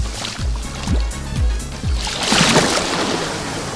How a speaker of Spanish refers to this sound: ¿Cómo suena hoy el mar Mediterráneo en la playa de La Guardia? Pues así.